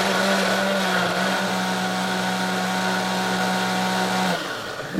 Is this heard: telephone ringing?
no